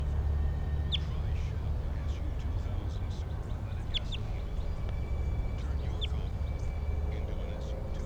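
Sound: wild bird calling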